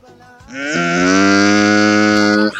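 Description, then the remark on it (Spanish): A person imitates a cow with one long, loud, drawn-out moo, rising at the start and holding steady for about two seconds before cutting off, with no other sounds. “Una vaca, el weón.”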